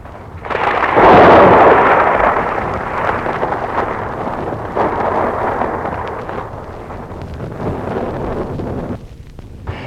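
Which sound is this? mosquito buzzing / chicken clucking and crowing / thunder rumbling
thunder rumbling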